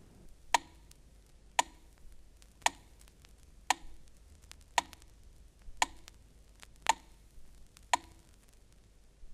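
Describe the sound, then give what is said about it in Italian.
A metronome set to 60, matching a clock's beat, ticks steadily at one beat per second, eight sharp, evenly spaced clicks over a quiet background with no talking. “Prendiamo il metronomo e puntiamolo sul numero 60, che corrisponde esattamente al battito dell'orologio, e cioè 60 colpi in un minuto primo, e sentiremo il movimento ripetuto in successione regolare.”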